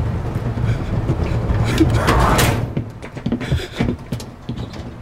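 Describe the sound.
A door is pulled shut with a swelling scrape and rush that peaks about two seconds in, then gives way to quieter shuffling and faint voices in the background.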